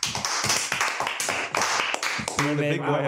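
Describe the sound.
A short burst of close, brisk clapping from a few people, the claps quick and irregular, with a voice briefly rising over the applause near the end.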